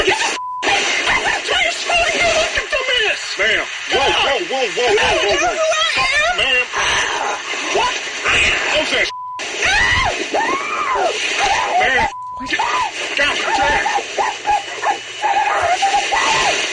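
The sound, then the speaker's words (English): A woman outside a car screams and wails loudly, throwing a tantrum and banging on the car window, her cries rising and falling almost continuously, broken by a few abrupt cuts to silence. “She's throwing the biggest tantrum in the world. She's a 3-year-old you've just taken her toys away from. She's banging on the window.”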